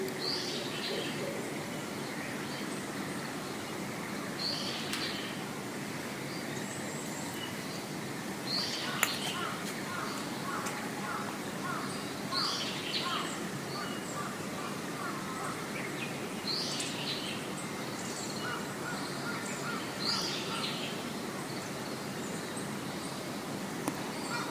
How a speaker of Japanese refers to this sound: ただいま時刻は5時19分です。空を見上げたら白いお月様、そしてうっすらと朝もやがかかった大きな木々たちが見えます。鳥のさえずり聞こえますか？